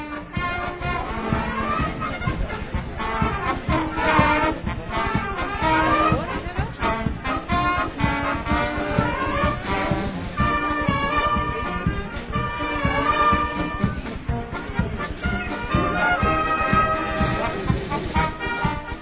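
A band plays outdoors in the collective performance of the traditional music competition in the Sint-Anna-park in Maldegem, continuously for the whole stretch, with sustained, layered tones over a steady rhythmic pulse, fairly loud and even, with faint crowd murmur mixed in.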